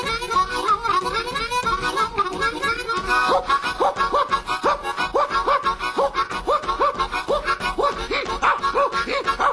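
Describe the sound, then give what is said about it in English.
A pack of bloodhounds, turned loose to chase running convicts, barks and bays in a fast, overlapping rhythm that grows more regular after the first few seconds, the loud yelps nearly continuous. “Didn't matter how far or how fast they ran, because they turned the dogs loose on them. And you know those bloodhounds were hungry.”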